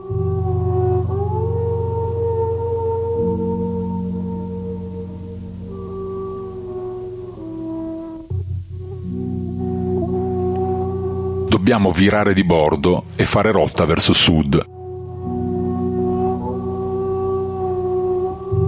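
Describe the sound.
A strong wind, blowing ever harder among large icebergs, howls in sustained, layered tones that slowly shift in pitch, steady and loud throughout, while a man speaks briefly over it partway through.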